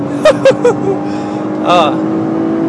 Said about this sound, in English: Is this fun to drive? Yeah, it handles really well. It's a good little car. It's not bad, yeah.